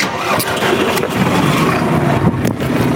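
A vehicle's engine is started and settles into a loud, steady rumbling run as two people set off to go hoeing on a Swiss farm. No one speaks.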